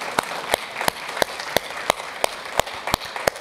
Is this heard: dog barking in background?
no